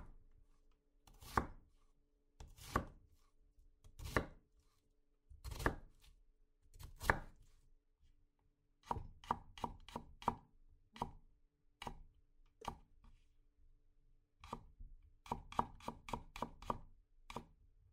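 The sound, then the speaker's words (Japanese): A kitchen knife chops crisply on a cutting board: a few slow, heavier strikes first, then quick, steady runs of rhythmic tapping. No voices. “確かに包丁の音って聞いとって気持ちよかね。包丁とまな板が当たってトントントンって、いつかこの音とお味噌汁の匂いでお兄ちゃんば起こせたらよっかなんて”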